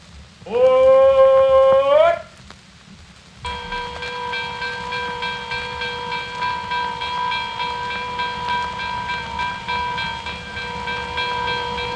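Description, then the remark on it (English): A train runs along the tracks with a steady low rumble. A loud whistle blast with a bending pitch sounds early on, then a long, sustained droning tone rides over the rolling noise. “Your train is entering a tunnel of love. Sorry for the slight delay on the tracks.”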